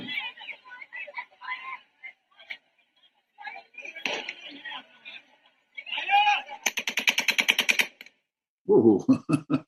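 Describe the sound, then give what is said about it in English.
A rapid string of gunshots cracks out in quick, evenly spaced bursts, loud and sharp, with excited voices talking before it and a heavy thud-like burst following at the end, heard in a video of an airport where the military tries to keep people out. “Oh, here are your gunshots here.”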